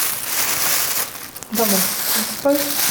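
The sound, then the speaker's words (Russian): Continuous crinkling of a plastic bag as dried red currants pour out of it in a soft rustling stream, with a couple of brief voiced sounds toward the end. “Аккуратненько их засыпаем вот так вот из пакетика.”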